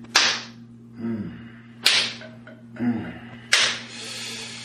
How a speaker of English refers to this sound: Oh, I like slapping it on my hand too.